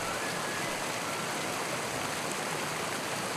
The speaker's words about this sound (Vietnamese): Xe chạy qua một thác nước nhỏ rào rào đổ xuống từ triền núi cao, những hạt bụi nước trắng chỉ đủ làm ướt mặt con lộ.